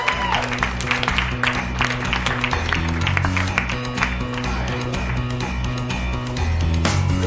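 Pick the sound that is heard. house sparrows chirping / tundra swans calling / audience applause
audience applause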